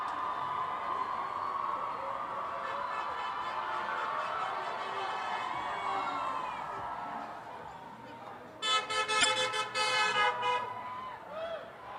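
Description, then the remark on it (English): Car horns honk in support of protesters gathered by the hundreds on Washington Street in Naperville, Illinois, amid a steady wash of crowd and traffic noise, with a loud, sustained blaring blast around the last few seconds, breaking into choppy beeps. “Beeps just continue to pour in, showing their support for the protesters here, gathered by the hundreds on Washington Street in Naperville, Illinois.”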